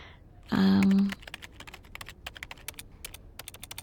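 A brief loud buzzing tone gives way to a quick, steady run of computer keyboard typing, crisp key clicks tapping along for several seconds with no talking.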